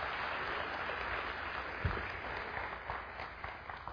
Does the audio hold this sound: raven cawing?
no